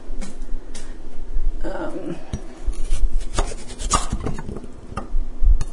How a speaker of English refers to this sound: All right, I just had to, that extra chopping was me chopping off extra bad parts of this poor carrot that has been pasture farm.